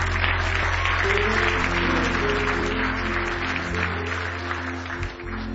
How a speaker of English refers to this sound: Clap your hands. Clap your hands. It's time to give the Lord a good hand clap of praise. Clap your hands,